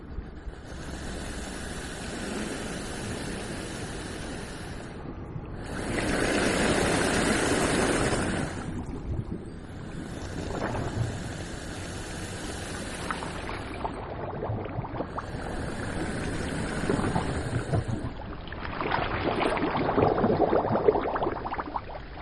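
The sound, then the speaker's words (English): Slow, rhythmic whooshing surges of air and water rise and fall every few seconds, like deep breathing, as Atlantic Ocean waves or tides push air into the many caves and holes in the rocks at Saint-Palais seaside resort, France, with a steady rushing wash beneath. “There are many, many caves and holes in rocks, and what sounds like someone's breathing is in fact the air pressure of waves or tides entering the caves, just like a natural water pump.”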